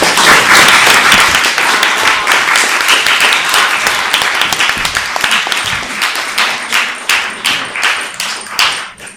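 An audience applauds, first as a dense, steady roar of many hands, then thinning toward the end into fewer, distinct sharp claps before fading out.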